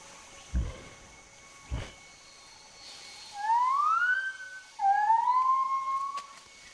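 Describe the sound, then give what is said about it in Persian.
A gibbon gives two rising, whooping hoots, each sliding upward in pitch and fairly loud, after a couple of dull low thumps in an otherwise quiet setting. “یک میمون گیبون.”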